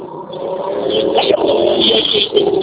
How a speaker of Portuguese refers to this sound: Desculpa, passou um carro, alguma coisa assim? Cortou.